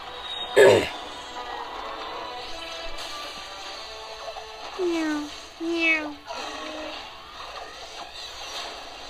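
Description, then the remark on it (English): A cat lets out two or three short, drawn-out meows in quick succession midway through, moderately loud, after a brief sharp snap near the start. “Meow.”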